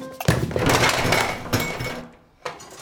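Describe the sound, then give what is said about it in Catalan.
A bedroom door is eased slowly shut, a long, steady scraping sweep lasting over a second, then a brief pause and a soft thump as it settles closed. No voices. “Fa un cop d'ull al dormitori on dormen els tres, en tanca lentament la porta i va cap a la sala d'estar, amb joguines escampades per tot.”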